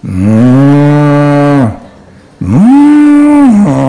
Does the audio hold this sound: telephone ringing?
no